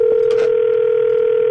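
A steady, loud electronic cell phone tone hums continuously in a grocery store in Anchorage, Alaska, with a couple of faint clicks near the start, then cuts off abruptly, like a call being placed.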